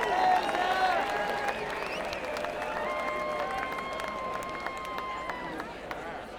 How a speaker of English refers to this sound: How about a nice round of applause for him?